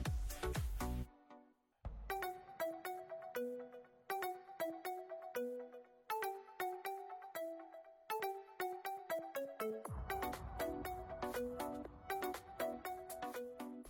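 A mobile phone ringtone plays loud, a bright electronic melody of quick repeating notes that grows fuller with a thumping backing beat partway through. No one speaks.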